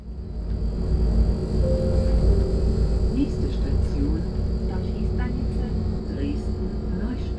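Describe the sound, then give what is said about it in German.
A steady, heavy low rumble of a moving train travelling back to Dresden carries on throughout, with faint high whines and soft squeaks above it and murmuring voices blending into the drone. “Mit dem Zug zurück nach Dresden, zum Haustürwahlkampf für die grüne Kandidatin zur Oberbürgermeisterwahl.”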